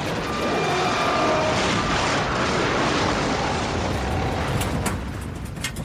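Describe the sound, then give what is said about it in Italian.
An airplane strikes a mountain top with its right wing and breaks apart into several pieces: a loud, sustained roaring rumble fills the whole stretch, with sharp cracking bursts near the end as it fades slightly. No voices. “E poi l'aereo colpisce con l'ala destra la cima di una montagna e si frantuma in più parti.”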